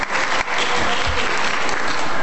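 An audience claps steadily for a couple of seconds, a dense, even patter of many hands at a fairly loud level, with no voices standing out.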